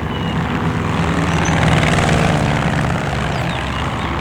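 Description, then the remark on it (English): A steady, loud drone of propeller engines from five warplanes fills the air overhead, swelling slightly in the middle as the planes pass, with no voices present. “Looking up, he saw the fascist planes, 5 of them, headed for El Sordo's.”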